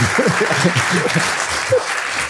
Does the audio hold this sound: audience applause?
yes